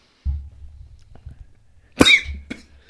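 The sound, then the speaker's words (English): A sudden, loud, harsh cough bursts out after a low rumbling, followed by a second smaller cough and a strained, throaty catch, from choking on just-swallowed saliva. “I just swallowed my saliva.”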